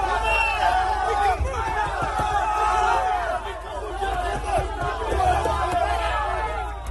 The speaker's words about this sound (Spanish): Gritos de fuera, fuera y golpes en el coche del entrenador cuando abandonaba el estadio